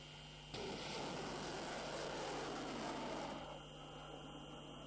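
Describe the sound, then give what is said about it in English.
A loud, broad engine roar of domestically made military drones passing overhead during a large-scale Iranian army drill, stretching from Semnan province to the eastern borders. It starts abruptly, holds steady for about three seconds, then drops to a fainter hum, with no voices. “The Iranian army has launched a large-scale drill involving different types of domestically made drones.”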